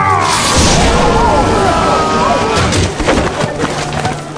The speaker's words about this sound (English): Suddenly, Bedivere charged toward the throne. He was intercepted by a lightning bolt.